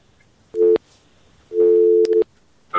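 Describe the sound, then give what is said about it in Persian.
A telephone busy tone beeps in steady, mid-pitched bursts after a listener's call-in phone call dropped: one short beep, then a longer one broken by a brief gap, and another starting at the end. It sounds loud and clear, with no voices. “خب قطع شد.”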